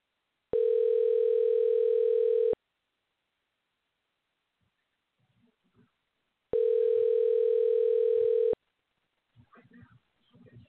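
Two steady electronic ringback tones from an outgoing phone call placed during a live WrestleBus broadcast, each lasting about two seconds and separated by a long pause, with faint, indistinct voices murmuring in the gap and afterward.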